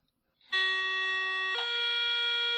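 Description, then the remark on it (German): A voice imitates an S-Bahn train door-closing signal: a loud, steady electronic-style tone that holds one pitch for about a second, then steps slightly higher and sustains to the end, with no talking. “Aber es ist schon original das S-Bahn-Türschließgeräusch, ne?”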